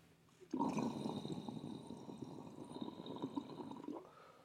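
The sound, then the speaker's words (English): Steady gurgling water bubbling in a water pipe as someone takes a hit starts abruptly and runs continuously for about three and a half seconds, fairly loud, then cuts off; no voices. “Just dumps bubbles, shreds.”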